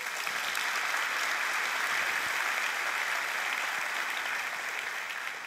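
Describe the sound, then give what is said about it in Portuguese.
An audience applauds God for the Bible on Bible Day, a dense, even wash of clapping from many hands that holds at a constant level for several seconds with no voices standing out. “Então, se você não se alimenta da verdade, e hoje é o dia da Bíblia, gente, vamos aplaudir a Deus pela Bíblia.”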